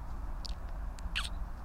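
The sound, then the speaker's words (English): A few short, high chirps from birds in the woods, scattered and fairly faint over a steady low outdoor rumble, with no voices. “And the birds chirping.”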